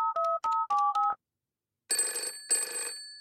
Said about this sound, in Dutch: Plotseling rinkelt de telefoon bij dokter Hamster.